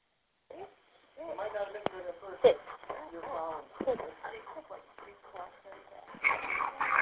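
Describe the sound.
A dog whimpers and whines in a run of short, high, wavering cries as it gets onto a woman's lap, with muffled voices and a tinny radio-like murmur in the background.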